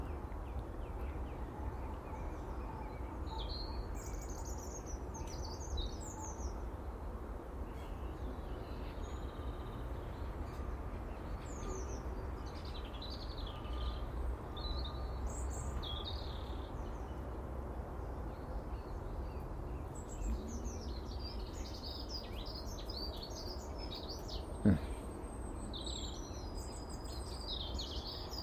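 bird, birds singing

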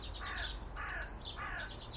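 bird, crow calling

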